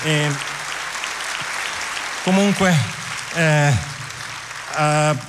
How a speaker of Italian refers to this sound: Concludiamo questa lunga lista con un grandissimo applauso e concludiamo con la coproduttrice dell'Acoustic Night, mia piccola moglie